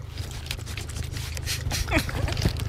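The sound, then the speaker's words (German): A snake being fed in a terrarium at a radio studio makes wet, irregular smacking and clicking sounds as it feeds, short sharp bursts repeating over a steady low hum, with a brief squeaky sweep near the end. “Wollt ihr noch einmal schmatzen hören? Komm, noch einmal schmatzen.”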